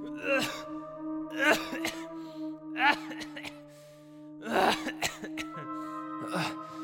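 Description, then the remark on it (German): A series of harsh, rasping coughs in several bursts, fairly loud, with short pauses between fits over a steady low hum in the background. “Wie lange hast du denn schon diesen schrecklichen Husten?”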